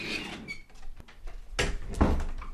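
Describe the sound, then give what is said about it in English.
An old door creaks and squeaks as it moves, with a couple of louder bumps and thuds near the end, without any talking. “It's an old door.”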